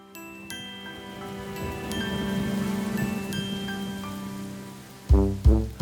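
Steady rain patters and hisses beneath sustained musical tones for several seconds, then three loud, deep thumps close together at the end.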